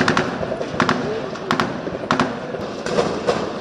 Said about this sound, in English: In another global hotspot, the Caribbean nation of Haiti, gunfire in the streets has become the norm.